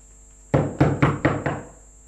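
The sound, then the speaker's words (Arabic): Five firm knocks on a house door by a police captain, in quick, slightly uneven succession, each a solid wooden thud with a short ring-out, standing alone against a faint steady background hum. “قم وافتح الباب.”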